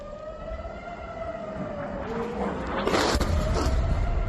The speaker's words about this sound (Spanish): Y ojo, porque en el norte de Israel han sonado las sirenas por lo que parecía un ataque aéreo con drones procedentes del Líbano.